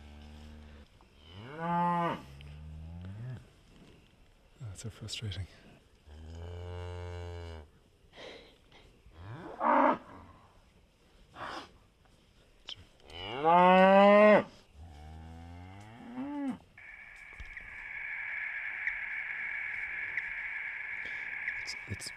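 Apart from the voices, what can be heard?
cattle mooing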